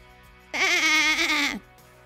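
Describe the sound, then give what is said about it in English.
A voice imitates a sheep with one loud, wavering "baa" bleat lasting about a second, alone against quiet surroundings, voicing the character Sheep answering Duck, who rides past on a bike. “Said Sheep, but what she thought was, he's going to hurt himself if he's not careful.”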